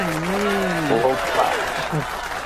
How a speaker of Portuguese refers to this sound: Cadê os aplausos aí? Cadê os aplausos?